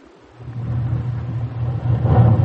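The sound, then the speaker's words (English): A deep rumble of thunder rises out of near-silence and rolls on steadily, growing heavier and louder toward the end, with no voices over it. “Was that the lion? It sounded more like thunder.”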